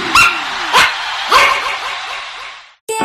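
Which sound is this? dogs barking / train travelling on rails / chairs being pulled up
dogs barking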